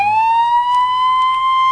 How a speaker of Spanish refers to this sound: Mira, lesión de Bale. Este es el sonido de la ambulancia.